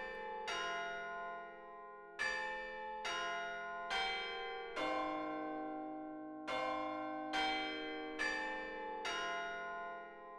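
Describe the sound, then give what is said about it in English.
A deep church bell tolls in a slow, steady rhythm as it strikes twelve, around eight strikes about a second apart, each ringing out and overlapping the next. No voices. “But then he was awoken by the striking of the 12th bell.”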